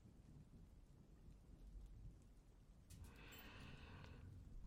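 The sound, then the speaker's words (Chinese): Steady rain pours down with a low rumble of thunder beneath it; partway through the rain hiss swells louder and brighter. No voices. “今天下雨，就稍微热一点吧。”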